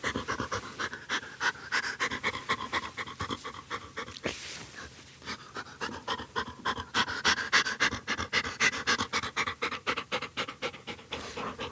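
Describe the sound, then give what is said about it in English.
A working dog used to detect mink pants rapidly and steadily, with quick rhythmic breaths continuing throughout and a brief pause around the middle. No one speaks. “And obviously you have the fun of having a good dog with you as well.”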